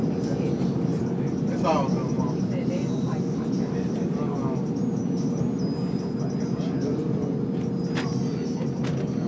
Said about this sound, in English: This is Ashland. Transfer to pink line trains at Ashland. This is a green line train to 63rd and Ashland.